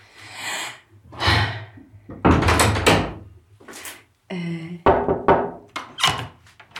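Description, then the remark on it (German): A door, found open, is opened and shut at the Coconut coworking space in Brandenburg: a run of loud clunks and rattling knocks, a brief high squeaky creak partway through, then more sharp thuds as it closes. No one speaks. “Oh cool, es ist offen.”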